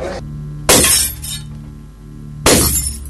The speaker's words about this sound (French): Que se passe-t-il ici? Les ampoules électriques éclatent?